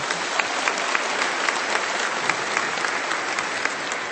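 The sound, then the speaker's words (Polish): Sustained applause from a sizable audience for parish groups from Police, Szczecin and Wełtin, dense clapping at a steady loud level throughout with no voices standing out. “Brawa dla nich.”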